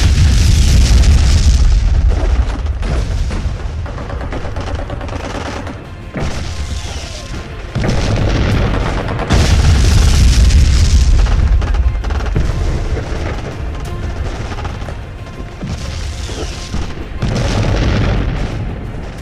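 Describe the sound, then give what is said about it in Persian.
Heavy, relentless artillery fire and explosions pound continuously, with deep booming blasts rolling one after another, loud and dense throughout with no voices, as the attackers fire to clear a hill. “اونا با شلیک بی امان قصد پاکسازی تپه رو داشتن.”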